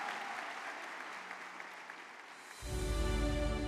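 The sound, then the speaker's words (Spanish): An audience claps and cheers for the Lord in a steady burst of applause and shouts of joy, then a swell of low musical sound joins in partway through, making the sound fuller and louder. “Vamos a dar un aplauso, un grito de júbilo al Señor.”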